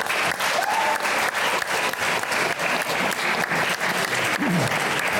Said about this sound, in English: Applause, everyone.